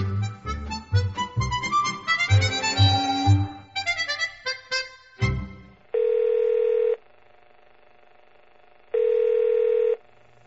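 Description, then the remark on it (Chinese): A burst of busy electronic tones, then a telephone line sounds two long, steady, buzzy tones about three seconds apart as a phone call is placed, like a call ringing through, with quiet in between and no voices. “可是我现在根本就不会用 MSN 呢，我看我还是乖乖的认命打电话吧。”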